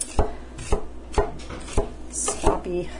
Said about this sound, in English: Doesn't have to be precise at all. If you get down to like the last third of the clove, it's all wobbly, that's fine. Chop, chop, chop. As I said, irregular chopping is the great luxury of the home cook, and you should indulge in it at all times.